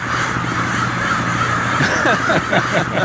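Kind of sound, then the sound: bird, crows cawing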